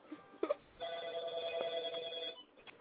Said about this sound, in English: Oh, who got a phone ringing?